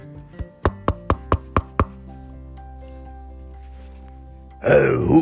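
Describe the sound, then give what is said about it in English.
Seven sharp knocks on a wooden door at a neighbor's house in a quick, even sequence, clear, followed by a pause and then a low groaning voice. “Eve and Anna arrived at their neighbor's house, Grumpy Tom. And they knocked on the door.”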